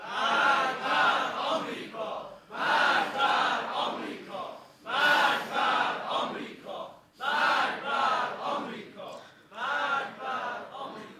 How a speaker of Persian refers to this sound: اما امروز بار دیگر می‌خواهیم از این حسینیه و در این جمع علمی و نخبگانی مشت محکمی بر دهان یاوه‌گویان بزنیم و فریاد مرگ بر آمریکا را تنین انداز کنیم.